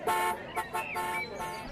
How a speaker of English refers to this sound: The first car horn wasn't heard on our roads until 1908.